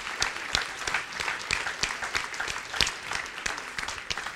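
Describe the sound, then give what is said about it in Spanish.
A church audience claps for Jesus in steady, dense applause, many hands overlapping into a continuous patter that holds at an even, moderate level throughout, with no voices standing out. “Dele ese aplauso a Jesús porque eso es contagioso.”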